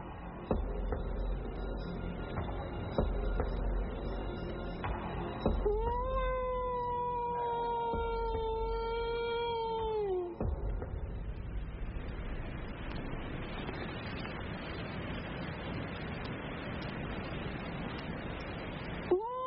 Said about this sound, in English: Shown by a woodsman how to get a response from wolves. You know, if I can at least hear a response, then at least I know what I'm dealing with.